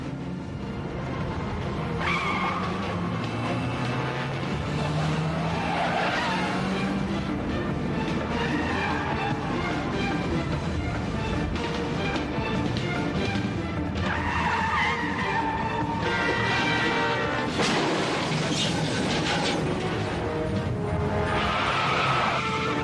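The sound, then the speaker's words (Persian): A car is driven hard with the engine roaring and pitch sweeping up and down, broken by repeated loud tire squeals and skids, continuous for the whole stretch. “ماشین طاقت نداره.”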